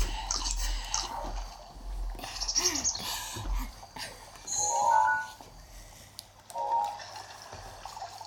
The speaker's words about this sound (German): Ich mag irgendwie das Geräusch, wenn Link isst. Das hört sich so lecker an.